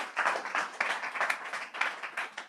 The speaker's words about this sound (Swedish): Ge Jesus en applåd.